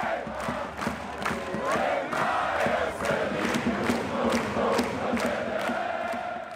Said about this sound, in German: Alba Berlin gewinnt das Basketballpokalfinale gegen Oldenburg, klar und deutlich mit 89:67. Für Alba ist es der erste Titel seit langem. Entsprechend frenetisch feiern 14.600 Zuschauer in der Halle den Erfolg und ihre Mannschaft.